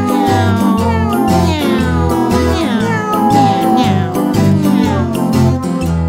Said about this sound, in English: Want to buy a kitten and keep it in my house. Buy it a bell and a little rubber mouse from the pet shop. From the pet shop. And the kitten goes meow.